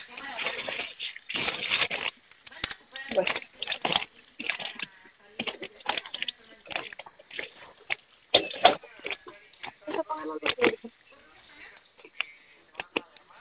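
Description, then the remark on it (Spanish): A string of short, sharp clicks and taps from buttons being pressed on an alarm keypad, the pound key three times, then asterisk and 1, coming in quick irregular bursts over a narrow, phone-like line. “Ok, apóyame acercándose a su teclado alarmado, va a presionar tres veces gato, asterisco 1, por favor.”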